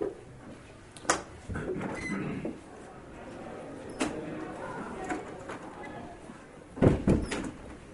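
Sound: door opening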